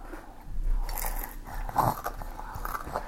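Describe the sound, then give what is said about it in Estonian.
Someone bites into cucumber bread with a crisp crunch, then chews in soft, irregular crunches, with one louder bite partway through. No one speaks. “Tõesti, miks ma tegin sulle kurki leiba?”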